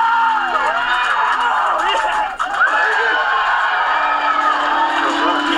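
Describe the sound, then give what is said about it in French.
SpaceX staff in the control room erupt in loud, sustained cheering, excited shouting and hugging after the fourth attempt to send the rocket to orbit succeeds, voices overlapping in a dense, celebratory roar with whoops rising above the din. “Il y a eu beaucoup de cris et d'embrassades.”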